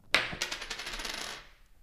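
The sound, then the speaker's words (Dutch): A coin, tossed to choose between two contest winners, strikes a hard surface with a sharp metallic clink, then spins and rattles in a rapid, shimmering ring that fades out over about a second. No voices. “En nou kunnen we natuurlijk gewoon lekker torsen met een muntje.”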